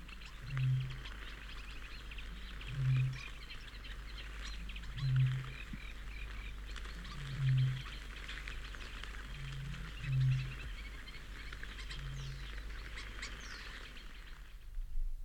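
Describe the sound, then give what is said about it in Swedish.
A deep, very dull and powerful booming bird call repeats close by at a steady pace, about every two and a half seconds, over fainter birdsong chattering in the background; these moaning calls carry through the night in series with long pauses between. “Det är ett mycket dovt och kraftigt ljud på nära håll.”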